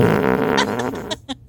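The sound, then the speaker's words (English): A muffled, stifled fart rumbles for over a second, low and buzzy, then breaks into a few short sputtering bursts at the end. Fairly loud, with no talking. “I wonder what that fart would sound like if it wasn't stifled”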